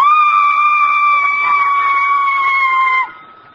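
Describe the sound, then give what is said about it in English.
A woman singing holds a single shrill, piercing high note, meant as a high C above a high A, for about three seconds, steady and loud, dipping slightly in pitch before it cuts off. “Oh, but I have a very unusual voice. I hit a high C above a high A.”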